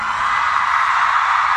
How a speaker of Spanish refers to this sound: Y yo hoy quiero pedir, no un minuto, el tiempo que queramos para no estar en silencio. Vamos a gritar porque ya hemos estado mucho tiempo en silencio.